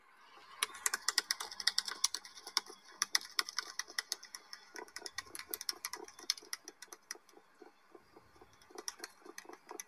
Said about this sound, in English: And then here's that bill rattle. This is why I love this app.